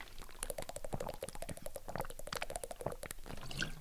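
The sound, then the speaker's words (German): Someone drinks after a toast, a steady run of wet, bubbly sips and swallowing clicks lasting a few seconds, with no talking. “Irgendjemand hat mir letztens gesagt, es nervt, wenn ich trinke.”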